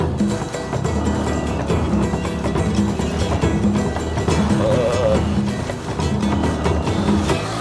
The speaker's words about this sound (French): J'ai dit descendre de la moto parce qu'on s'est complètement enlisé.